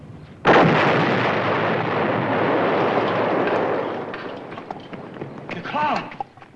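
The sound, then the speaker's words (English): A car bomb explosion erupts with a sudden loud blast as the car disintegrates, then a long roaring rumble with crackling debris that slowly fades over several seconds; a brief voice cuts in near the end. “I'll bet you that girl planted a bomb in the car.”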